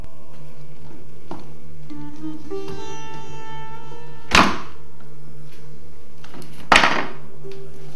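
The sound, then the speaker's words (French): A door, set on the end of a screwdriver levered with a foot, is lifted and dropped back onto its hinge pins: faint metallic scraping and creaking, then two sharp clunks a couple of seconds apart, with no talking. “posez le pied sur le tournevis, remettez la porte au bout de celui-ci, et ensuite, vous pouvez réenclencher les pommelles.”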